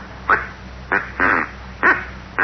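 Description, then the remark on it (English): A duck call, ordered by mail from St. Louis, is blown in five short, nasal, raspy quacks at an uneven pace, the third one drawn out longer, over a low steady hum with no talking. “This is a duck call.”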